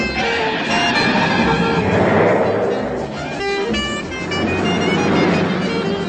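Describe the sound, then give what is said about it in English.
A car races through corners in the car chase from the film The Gnomobile, engine roaring with high squealing tones layered over a dense, loud rush of noise that stays sustained for the whole stretch. “And now, number 1, the wildest of wildest wild car chases.”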